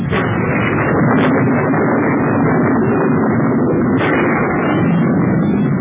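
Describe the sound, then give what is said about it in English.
A long, loud roll of thunder rumbles steadily for several seconds, a dense low roar with brief sharper cracks now and then, and no voices. “Listen to that thunder.”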